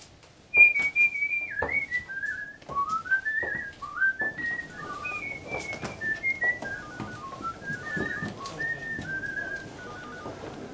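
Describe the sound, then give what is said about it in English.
A man whistles a flowing, clear melody of rising and falling notes while walking to the office, with footsteps and light background noise underneath and no talking. “On the way to the office, he whistles a tune.”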